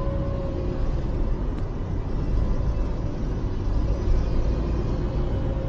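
Steady engine roar and road rumble from vehicles moving in traffic, a heavy truck's drone mixed with the thin motor whine of a motor scooter riding beside it, whose rider passes out, continuous and loud throughout without any voices.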